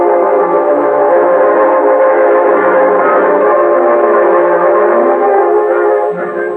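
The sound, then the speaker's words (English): A train rumbles along the tracks as it climbs through the Cajon Pass, loud and continuous for several seconds, with a dense droning, tonal quality throughout and no voices. “The three Los Angeles detectives climb through the Cajon Pass aboard one train.”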